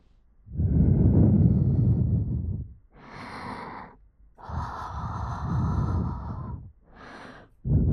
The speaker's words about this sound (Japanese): こちらだけではなく、反対のお耳にも吐息を吹きかけてみましょう。